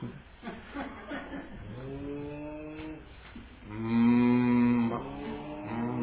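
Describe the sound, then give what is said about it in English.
A person imitates a cow, producing two long, drawn-out moos, the second louder and steadier than the first, with a few short vocal sounds before them. “Who knows how to make a proper cow noise?”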